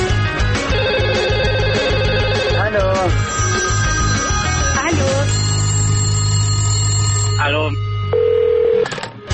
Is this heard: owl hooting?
no